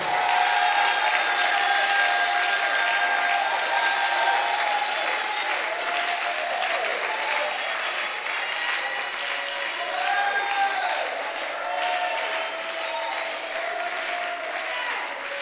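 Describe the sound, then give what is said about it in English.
Sustained clapping from an audience in which the sisters clap the most, dense and steady for the whole stretch, with faint voices and scattered cheers mixed in beneath the clapping. “God, the sisters are clapping more than the God bless you.”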